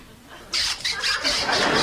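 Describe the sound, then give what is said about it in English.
After a brief hush, a voice imitates an atom bomb exploding in Steve Martin's comedy sound-effects routine: a loud, hissing rush of breathy noise that surges in several pulsing waves and keeps roaring to the end. “Unfortunately, the atom bomb went off.”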